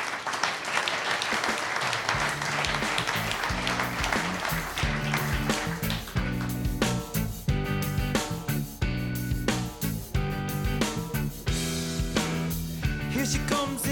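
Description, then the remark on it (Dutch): A crowd bursts into loud, sustained applause at the announcement of the Brabant rider of the year 2024. After a couple of seconds, upbeat music with a steady, punchy beat starts over the continuing clapping. “Maar de Brabantse renner van het jaar 2024, en we gaan een geweldig applaus laten horen, is geworden”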